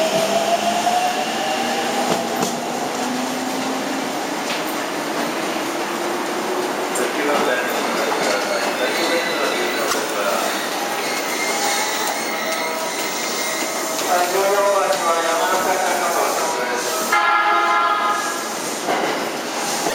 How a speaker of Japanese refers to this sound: 足元黄色い線の内側でお待ちください。中央東海高尾行き到着です。